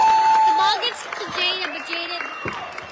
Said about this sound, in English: This crowd is especially loud.